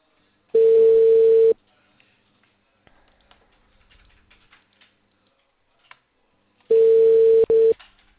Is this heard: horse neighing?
no